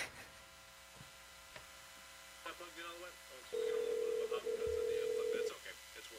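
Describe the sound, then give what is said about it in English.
A phone call rings out over a speakerphone: a few short electronic beeps, then a long steady ringback tone lasting about two seconds, with faint room murmur underneath. “Wait, Dad, put it on speaker.”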